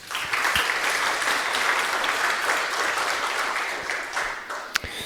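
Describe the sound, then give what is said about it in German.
An audience applauds steadily, a dense wash of many hands clapping at a fairly even loudness, with a few sharper individual claps standing out near the end. No one speaks. “Viel Applaus und viel Spaß.”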